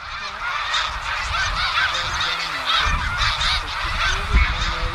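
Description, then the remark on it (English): A large flock of snow geese honking in flight, a dense, continuous chorus of overlapping calls with no gaps, steady and fairly loud throughout, with no voices present. “when the birds rose up, probably because of that hawk, so did he. It was as if the ground where the snow geese were had been covered with snow, and then someone scooped it all up and threw it in the air like confetti.”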